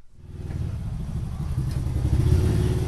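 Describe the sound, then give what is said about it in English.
A motorbike engine rumbles steadily, its low, throbbing drone swelling a little louder as the ride goes on, with faint rattling and no voices. A father rides the motorbike home from school with his son on the back, past banana trees and hanging laundry, in Gadel Village outside Surabaya, Indonesia. “rides home from school on the back of his dad's motorbike.”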